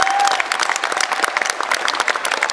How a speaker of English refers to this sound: Give Bob Casey a round of applause. He's on the case.